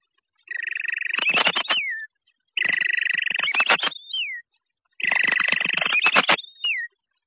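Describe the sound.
A person whistles an imitation of a robin's evening song: three repeated phrases, each a held whistle breaking into a rapid, rattling trill and ending in a short sliding note, clear.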